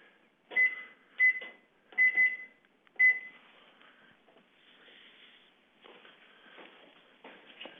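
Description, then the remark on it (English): A kitchen timer being set while making tea: five short electronic beeps from button presses over about three seconds, followed by soft handling and rustling noises, with no talking. “I'm just setting the timer.”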